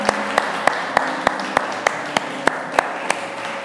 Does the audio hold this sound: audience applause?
yes